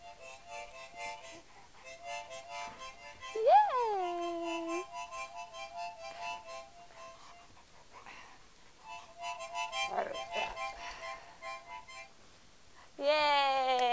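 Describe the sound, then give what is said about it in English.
A dog lets out a couple of rising, drawn-out howls with thin whimpering tones over a steady reedy droning note in the background. “Doggy's getting too hyper.”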